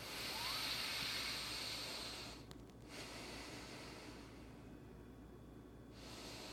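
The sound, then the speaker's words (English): Steady breathing through both nostrils: a long airy inhale, a brief pause, then a softer extended exhale, with another breath starting at the end, as part of a nine-round breathing exercise done before meditation. No one speaks. “So it's called 9 rounds of breathing.”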